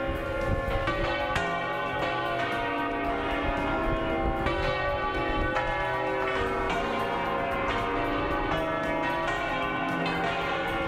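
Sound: cathedral church bells pealing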